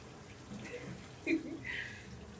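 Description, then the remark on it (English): Steady, hissing spray of shower water running in the background, fairly quiet and continuous, with a brief louder splash partway through. “I know I'm going to get some of them when I get out of the shower anyway, so.”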